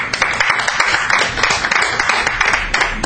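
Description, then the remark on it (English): A debate audience claps steadily for about three seconds to vote for Northwest University as the better debating team, a dense crackle of many hands blending into continuous, fairly loud applause with no voices over it. “Clap your hands if you feel that Northwest University did the better job of debating.”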